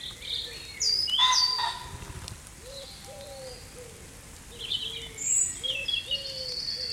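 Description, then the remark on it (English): At dawn, as rain starts to settle, a blackbird sings fluting, warbling phrases while a wood pigeon coos steadily in low, soft repeated notes underneath, against a faint background hiss of countryside. “As the rain starts to settle, blackbirds and wood pigeons join the ensemble.”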